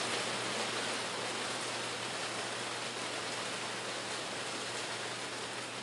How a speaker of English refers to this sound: It's raining beautifully in this day.